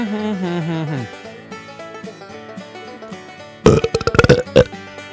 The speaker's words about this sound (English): Wet Belch of the Week